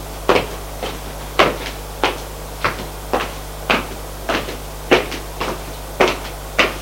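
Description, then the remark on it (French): Someone knocks on a bedroom door in a steady series of sharp wooden raps, about a dozen in all, some falling in quick pairs, over a faint low hum and no voices. “Frappe à la porte.”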